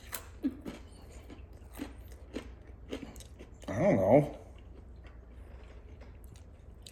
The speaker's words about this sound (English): feels like I'm chewing on a potato chip. And that's intriguing to me, because it's not what I expect from my pizza. I feel like I just bit into like a Lay's potato chip crust. Part of me wonders, does this need a content warning for all the chewing?